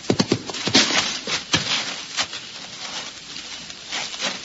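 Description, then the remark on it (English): Horse hooves clip-clop in an uneven, irregular rhythm, a few clustered hoofbeats then more scattered ones, moderately loud with no voices. “Listen. Is your rider coming this way?”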